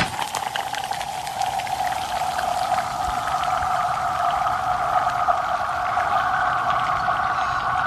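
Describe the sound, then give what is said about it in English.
A big chunk of ice, thrown out onto a frozen lake, skitters across the ice, producing a sustained, eerie ringing hum with two steady pitched tones and faint clicking scrapes, lasting several seconds without any voices. “Here's big piece of ice, chunk ice, thrown out onto a frozen lake.”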